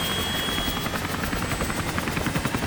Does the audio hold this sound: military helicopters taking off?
yes